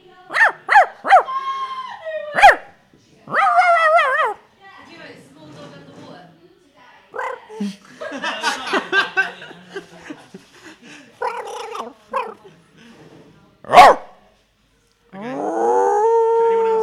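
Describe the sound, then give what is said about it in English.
A person imitates a small dog with a run of short, high yapping barks, then drawn-out whiny yelps and howl-like cries, fairly loud, with brief pauses between bursts. “I can make various seagull sounds, like what else I can do? Dogs. Small dog.”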